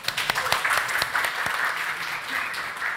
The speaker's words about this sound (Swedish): Tack så jättemycket, vi ger dem en applåd.